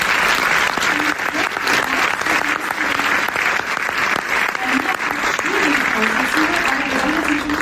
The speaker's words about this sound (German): ein großer Applaus natürlich auch zum Abgehen.